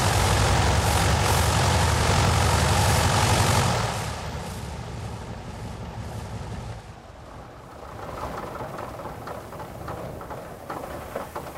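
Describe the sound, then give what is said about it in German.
Loud, steady droning of the piston engines of a vintage Junkers Ju 52 trimotor aircraft, a deep throbbing rumble; the roar drops noticeably partway through, then continues at a lower, rougher level as if throttled back. “In diesem Sinne also, wann immer Sie einer Tante Ju habhaft werden können, mitfliegen. Denn es ist ein einmaliges Erlebnis, von dem man noch lange nach Landung und Abstellen der Motoren schwärmt.”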